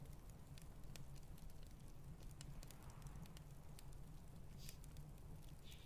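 A campfire crackles steadily while snow falls, with scattered sharp pops and snaps over a low, constant rumble, fairly quiet, with no one speaking.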